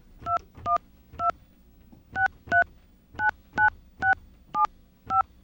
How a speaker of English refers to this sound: I'm going to dial without Bernie on the line. Maybe that'll make it easier for our phone system to interpret.